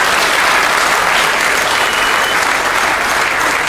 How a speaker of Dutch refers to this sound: Applaus voor het programma.